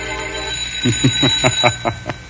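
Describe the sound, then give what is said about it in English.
A man on a front doorstep rings a doorbell in a quick, even series of about seven bright, buzzing pulses over a steady background hum, with no one talking. “He's finally gotten up enough courage to ring for admittance, Lothar.”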